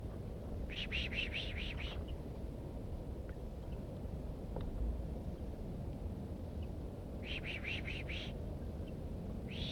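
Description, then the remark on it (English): Two quick bursts of pishing, each a rapid string of about six sharp, hissing pulses, made by a person to draw a female bird down, heard over a steady low rumble of wind. “Drawing the female down by pishing.”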